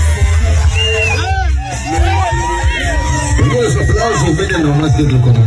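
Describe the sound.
A party crowd cheers loudly and steadily as a DJ makes an announcement and a big truck drives in, many voices shouting over one another with rising, high-pitched whoops and yells bursting out repeatedly above the dense hubbub.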